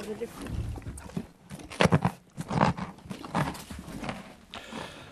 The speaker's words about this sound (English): Sound, touch, smell and taste, because that is a carrot being eaten by a horse.